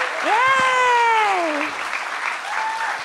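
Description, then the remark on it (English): An audience applauds the show's guests steadily for about three seconds while a voice lets out a long, wavering whoop over the clapping, followed by a shorter cheer near the end. “Let's have one more round of applause for all of my guests.”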